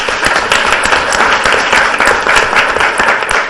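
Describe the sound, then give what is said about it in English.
An audience at a conference applauds steadily, a dense, loud wash of many overlapping hand claps that keeps an even intensity for several seconds with no voices heard. “And so the last round of applause I'll ask you to join me in is a great debt to”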